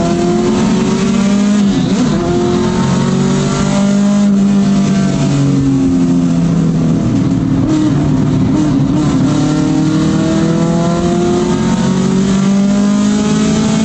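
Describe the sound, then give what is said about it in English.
Several car engines roar and rev together, pitches rising and falling as they accelerate and pass, a dense continuous drone of racing motors with no voices. “But everyone's just kind of in a big clump of cars together.”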